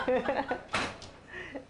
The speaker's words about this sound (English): Door closes.